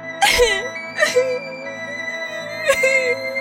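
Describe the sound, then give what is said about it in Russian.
A voice imitates a girl sobbing bitterly, with three broken, wailing cries and shaky breaths between them, fairly loud, no words spoken. “Однажды гуляла принцесса в саду и горько плакала.”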